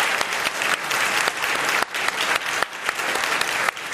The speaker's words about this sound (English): So, but please give a warm Commonwealth round of applause for PJ O'Rourke.